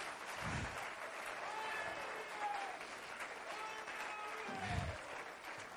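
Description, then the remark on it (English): An audience claps their hands to praise the Lord, steady in a dense, sustained burst of applause, with low thumps and scattered voices mixed in throughout. “Let's clap our hands and praise the Lord.”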